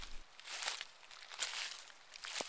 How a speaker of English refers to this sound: Okay, so based on crunching leaves alone, we know a little bit about where we are in the world. And not just that, but the fact that the trees here lose their leaves, which means we have to have a season where that happens.